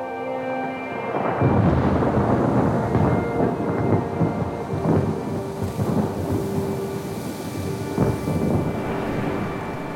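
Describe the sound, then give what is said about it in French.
A gigantic storm composed by Ariel as Prospero watches: heavy, continuous rain and deep rolling thunder that swells and cracks several times, loud, with no voices. “Sous les yeux d'un Prospero ravi, Ariel compose une gigantesque tempête.”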